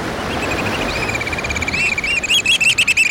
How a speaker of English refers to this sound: We're crouching on a rocky shoreline on the Pacific coast, hearing the piping call of the black oyster catcher, a stocky black bird with bright red eyes and a stout orange-red bill perfectly suited for jabbing limpets and mussels.